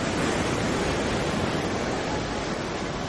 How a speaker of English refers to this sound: I have another minute and 35 of this ocean sound.